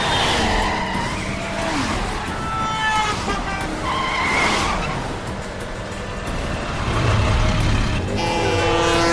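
A car driving in the opposite carriageway swerves hard to dodge oncoming cars, tires screeching repeatedly over a loud, continuous roar of engines and traffic, the squeals rising and falling in several sharp bursts, intense with no voices.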